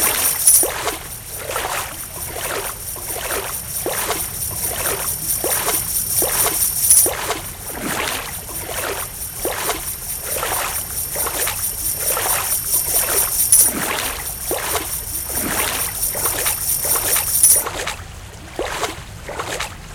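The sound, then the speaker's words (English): Steady, rhythmic swimming splashes from a video game as the player's character moves through water on a bonus level, one stroke about every half second, fairly loud, over a faint high electronic whine with no talking. “So this is water.”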